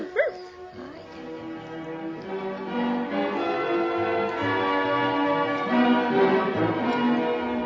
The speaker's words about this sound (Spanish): ¡Ay, pero qué perro tan imprudente!